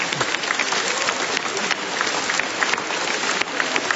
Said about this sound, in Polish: I dla słuchaczy Radia Maryja także brawa!